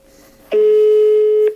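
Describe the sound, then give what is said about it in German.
A single outgoing-call ringing tone: one steady, loud electronic beep lasting about a second, heard through a phone line with faint line hiss before it and no talking. “Ui, es läutet.”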